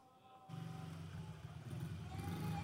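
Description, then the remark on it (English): A small motorbike built for a four-year-old child, ridden by a grown man, kicks in abruptly and keeps running, a buzzing low putter that grows slightly louder and rises a little in pitch as it revs, without talk. “But I saw a little four-year-old's motorbike yesterday, and I thought, here's my time.”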